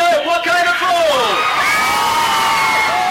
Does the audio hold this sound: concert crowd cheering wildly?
yes